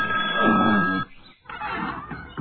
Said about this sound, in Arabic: ها؟ لا يوجد أحد. إذن من طرق الباب؟ ها؟ ولكن ما زال الباب يطرق. إنه التليفون.